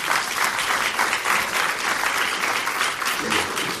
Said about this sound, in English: So you're all going to have to stop clapping soon, OK?